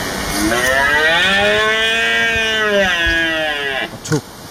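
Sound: red deer stag bellowing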